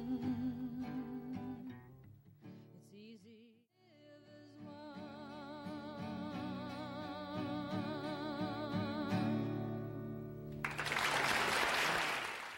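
A live song with sustained singing and instruments plays, then near the end a loud burst of audience applause and cheering erupts, a dense wash of clapping for the final two seconds.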